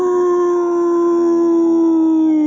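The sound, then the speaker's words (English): A voice imitates a wolf howl, the character Wolf howling inside Cinema 6, a movie theater: one long, loud, sustained note held steadily, sliding gradually lower toward the end, with no talking around it. “Wolf howled.”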